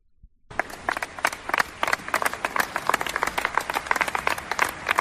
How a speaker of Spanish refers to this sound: Bueno, pues sabéis qué es esto. Estos son los jugadores del Athletic y su entrenador aplaudiendo a un San Mamés vacío.